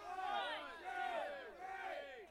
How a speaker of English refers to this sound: Cheer, dragon. Okay, ready? You guys do the count off. Ready? Go.